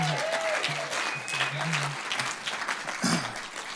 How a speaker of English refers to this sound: Still a bit half-hearted. They deserve a much better round of applause. Come on.